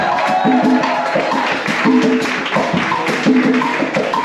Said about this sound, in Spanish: En la batería, directamente desde Cuba, tenemos a mi hermano Michel Medrano. Aplaudimos también para Michel, por favor.